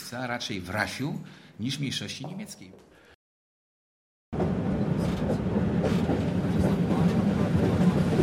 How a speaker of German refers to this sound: Gemächlich ruckelt die Straßenbahn neben der mehrspurigen Schnellstraße daher. Alle 5 Minuten ist Halt.